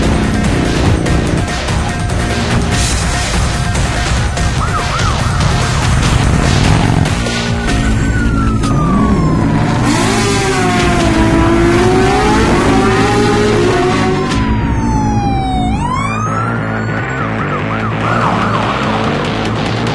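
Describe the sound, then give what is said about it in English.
An autonomous ambulance on its way to the hospital drives along with loud rumbling road noise, and after a few seconds its siren kicks in, wailing up and down in long sweeping tones with no one speaking. “I'm in an ambulance, one of those new autonomous models.”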